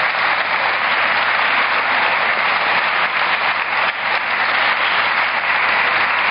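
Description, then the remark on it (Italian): Sustained applause from an audience for the young people, a dense, steady wash of many hands clapping at an even loudness throughout, with no voices standing out. “Facciamo un applauso ai nostri ragazzi.”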